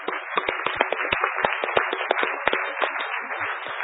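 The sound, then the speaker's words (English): A crowd applauds, a dense and steady patter of many hands clapping with sharper individual claps popping out. It holds at a fairly even loudness throughout, with no voices over it. “I don't know why people are applauding that, but I don't know if anyone saw on Friday night.”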